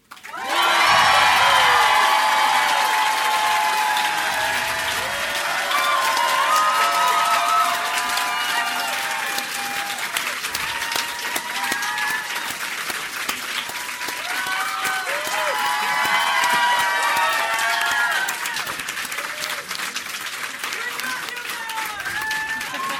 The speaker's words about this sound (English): Love you guys. We didn't even ask you guys to clap that loud. I know. Or long. We didn't have to pump the crowd. It was cool.